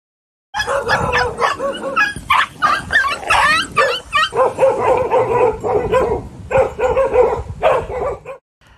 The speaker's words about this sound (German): Ja, da hatte ich schon ganz schön viel Respekt davor und ich werde euch jetzt mal eine Tonaufnahme vorspielen, wie das dann teilweise auch klingt, wenn du unter so vielen Hunden bist.